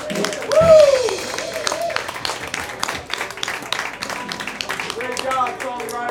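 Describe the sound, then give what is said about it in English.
A crowd gives a round of applause for the songwriters: dense steady clapping lasting several seconds, with whoops and cheering voices rising over it, loudest at the start. “Thank you so much, songwriters. Round of applause.”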